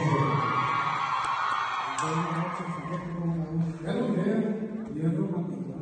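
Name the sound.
loud applause and cheering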